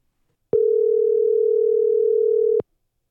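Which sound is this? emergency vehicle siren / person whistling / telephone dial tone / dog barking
telephone dial tone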